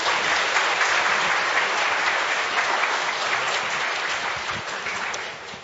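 A crowd claps steadily for several seconds, a dense, even patter of many hands that stays loud throughout and tapers slightly at the end, with no voices over it.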